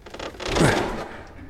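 A door opens in one smooth motion, a soft scraping whoosh that swells and fades over about a second, with no voices and nothing else around it.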